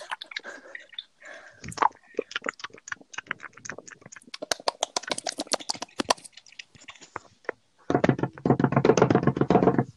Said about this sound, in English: Banging the floor.